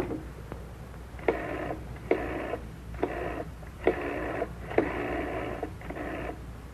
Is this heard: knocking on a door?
no